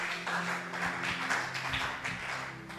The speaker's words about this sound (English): Clap your two hands for the title.